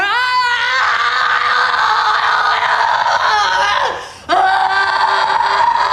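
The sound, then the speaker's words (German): A woman screams loudly and continuously at a high pitch, the cry briefly dipping and breaking off near the end before surging back just as strong. “Aber schauen Sie mal, wie das auf Sie wirkt, wenn eine Frau brüllt.”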